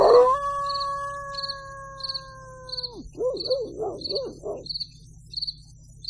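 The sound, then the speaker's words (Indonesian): At night in a quiet housing complex on Jalan Sersan Bajuri in Bandung, a dog lets out a long, steady howl, then breaks into a quick run of wavering yelps and barks, while insects chirp in an even, repeating rhythm and a low hum fills the quiet. “Hanya terdengar gonggongan anjing saja.”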